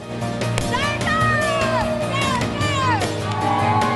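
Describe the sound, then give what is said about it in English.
A loud, steady crowd of many overlapping voices shouts and whoops, with rising and falling cries over a dense, echoing din: spectators filling the bleachers cheer in a school gym while a cheerleader claps. “In a gym, spectators fill bleachers and a cheerleader claps.”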